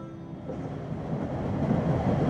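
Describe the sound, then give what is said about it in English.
Steady rumbling interior noise of a moving train, a dense low-frequency roar with faint rattling that holds constant and grows slightly louder, with no voices. “That's right, we've got on a train in order to teach you a useful English expression”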